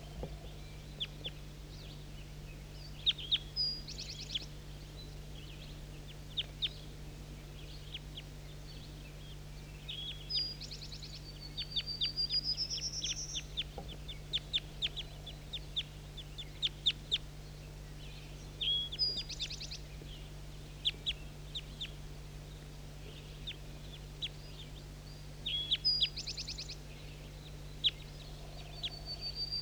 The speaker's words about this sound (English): start recording these birds that are close now. Definitely big guy.